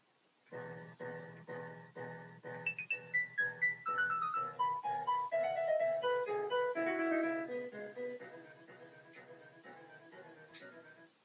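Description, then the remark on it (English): A melody played on a MIDI keyboard in bright, chime-like tones: a steady run of repeated chords, then a quick descending line of notes over a rhythmic pulse, fading out. No one speaks. “That's what I got so far, and if you guys don't like the sound, it's not really my fault, it's just the MIDI keyboard that, you know, comes with it.”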